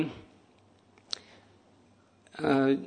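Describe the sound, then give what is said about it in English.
A single short, sharp click from a small altar bell rings out faintly in a quiet pause, with a voice speaking briefly before it and again after. “The clicking sound is, I think, the bell on the altar.”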